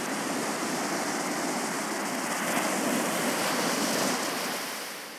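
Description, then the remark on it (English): Steady ocean surf in Kauai on a warm day rushes and hisses continuously, a broad wash of breaking waves that swells slightly in the middle and eases off toward the end, with no voices. “And you see a wave coming toward you.”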